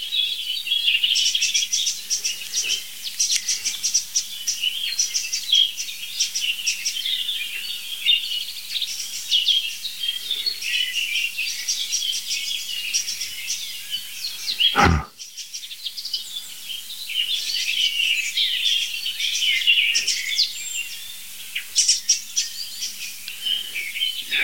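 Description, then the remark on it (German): Loud, harsh bird calls chatter continuously in a dense overlapping stream, as if two kinds of birds are scolding at once, with one sharp click or knock midway. “Einfach zwei richtig laut schimpfende Vögel. Also zwei Arten.”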